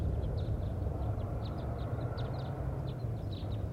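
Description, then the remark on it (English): A flock of wild birds passes overhead, giving many short, high chirping calls in scattered bursts throughout, faint above a steady, loud low rumble. “And wild birds are flying over right now.”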